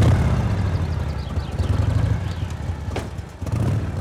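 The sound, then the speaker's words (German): A neighbour's motorized lawn mower engine, said to have 120 horsepower, drones steadily, a constant low throbbing hum that holds its pitch throughout, with a brief clatter partway through and no voices. “Hörst dat? Die Nave halt dat Motorradrouter. Fort in den Mai, 120 PS.”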